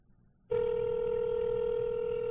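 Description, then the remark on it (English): A telephone line, after a toll-free number is dialed, sounds a single steady, mid-pitched electronic tone that begins abruptly after a moment of faint low rumble and holds evenly for about two seconds; the number turns out to be disconnected. “Let's see if this number still works.”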